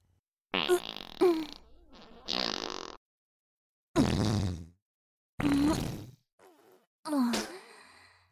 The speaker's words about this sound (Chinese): 居然有人在这里，不会吧？这里被我弄得这么臭了，居然还待得下去，居然还在这里放屁。哇，好臭啊，放的屁居然这么臭，是想和我比放屁吗？